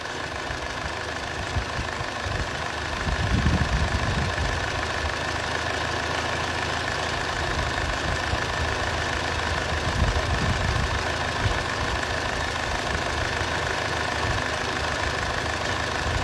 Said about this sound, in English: So this engine is hunting, guys. When you talk about hunting, it's not a misfire, but the engine is hunting, meaning that there's something going wrong in between the cylinders, guys.